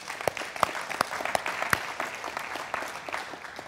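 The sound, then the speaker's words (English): An audience breaks into applause: a steady patter of many hands with a few sharper, louder claps standing out in the first two seconds, then an even, moderate wash of clapping with no talking. “That's worth a clap.”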